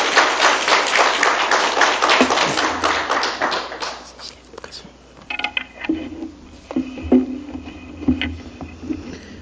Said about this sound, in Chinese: 我们给他一个热烈掌声。好，谢谢。